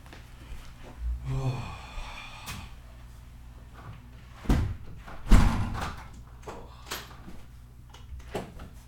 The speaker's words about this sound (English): That door is so jammy. It's a jammy door.